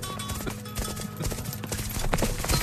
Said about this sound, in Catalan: Poc esperaven els dos cavallers que aquell galop de cavalls no eren ni l'exèrcit musulmà ni de l'exèrcit cristià. No eren cavalls. Eren... els llops!